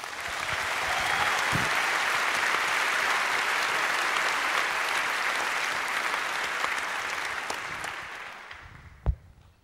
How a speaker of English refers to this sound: But tonight, I think it's a historical event. It's for the first time that they share a stage together. So a big applause again.